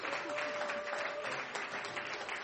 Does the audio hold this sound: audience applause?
yes